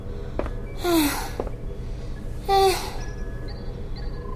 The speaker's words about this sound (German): Die Luft wird jetzt merklich dünner und das Atmen fällt den beiden schwer.